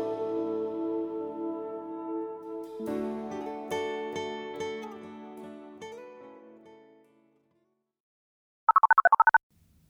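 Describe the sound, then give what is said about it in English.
Soft instrumental music fades into silence, then a telephone rings once near the end with a short, rapid electronic trill, clear. “Sister Anna, get that phone.”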